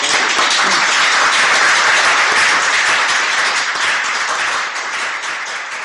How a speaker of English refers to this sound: I'm sure you'll join me in giving a good round of applause.